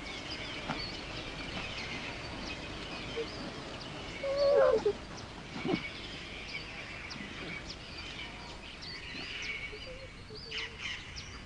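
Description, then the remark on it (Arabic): A pair of kites call in a short burst of sharp, wavering cries around the middle, followed by a few fainter calls, over a steady outdoor background hiss, as they pester a young cheetah over its prey. “إن هذا الزوج المزعج من طيور الحدأ يساهم في تعليم هذا الفهد الصغير درساً آخر من دروس الحياة، ذلك أن المحافظة على الغنيمة يمكن أن تكون أصعب من الحصول عليها.”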